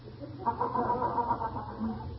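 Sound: rooster crowing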